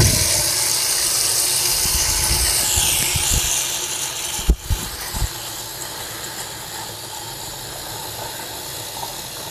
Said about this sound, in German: Ich habe extra einen schönen Wischeimer besorgt. Dann werde ich jetzt mal Wasser in diesen Wischeimer geben, und zwar eine ganze Menge.